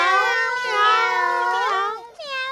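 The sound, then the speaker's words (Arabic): A cat meows loudly: one long, drawn-out wavering meow, then a short second meow right after it, with no talking. “مياو مياو، بعد الطعام سوف نلعب هنا في البيت يا أمي ولا نخرج.”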